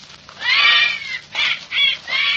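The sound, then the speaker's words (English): A man whistles and warbles an imitation of a bird call in several bursts, a long wavering note followed by shorter chirping phrases, fairly loud with no other sounds, in a jungle. “Never could do that call properly.”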